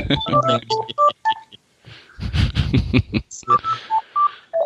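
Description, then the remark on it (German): A phone rings with an incoming call, a ringtone of short, bright electronic beeps in quick melodic bursts, broken by a louder, noisier stretch in the middle before the beeping resumes. “Ich krieg gerade ein Telefon an.”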